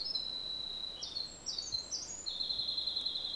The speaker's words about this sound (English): Before I answer the question, we've got a winter wren singing. And that's a tiny bird that produces a very loud song, and here in Alberta, at least in the boreal.